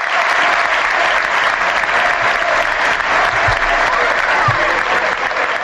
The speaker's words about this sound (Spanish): Y es que esta es la ovación que dio Castalia a Aris Medunjani en lo que fue su último partido como profesional.